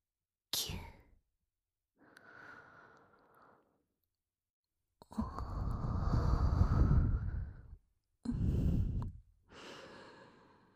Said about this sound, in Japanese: じゃあ、敏感な耳に、この熱い吐息、おちんちんに響きませんか？